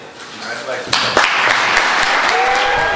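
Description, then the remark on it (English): Applause from several hundred people in a crowded hall at the Salisbury Fire Station on Cypress Street, for the swearing-in of Jag Day as mayor, swells after about a second into steady, dense clapping with a few sharper claps standing out, and crowd voices murmur underneath throughout. “But the main event, that of the swearing-in of Jag Day as mayor, drew the applause of several hundred in the audience.”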